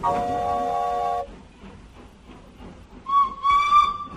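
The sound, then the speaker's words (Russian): A steam locomotive whistle blows one long, steady, multi-toned blast, then cuts off to a rough hiss before sounding again in two shorter, slightly wavering hoots. “Паровоз заполошно взревел. Сначала протяжно, потом короткими гудками.”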